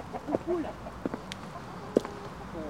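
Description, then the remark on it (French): Hens cluck softly in a handful of short, scattered bursts over quiet outdoor ambience, with faint background murmur. “Tiens, si vous êtes au soleil, à l'ombre, à côté des poules.”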